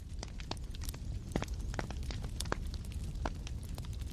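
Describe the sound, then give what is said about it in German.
A fire crackles steadily, with irregular sharp pops and snaps scattered over a low continuous rumble, and no voices. “Ja, ist schon an. Hörst du es nicht? Hörst du es knistern?”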